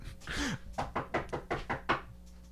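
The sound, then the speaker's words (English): A quick series of about seven knocks in a steady, rapid rhythm, fairly loud, like someone rapping on a door, preceded by a brief rustling burst. “No, I'm not knocking. Don't accuse me of that.”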